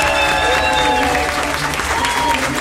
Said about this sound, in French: Applaudissements pour lui.